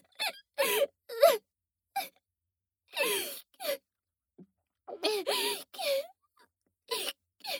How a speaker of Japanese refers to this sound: ごめん、何泣いてんだろ私、変なの。